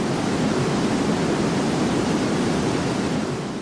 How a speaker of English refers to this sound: Here's 225,000 cubic feet per second of water rushing over Niagara Falls.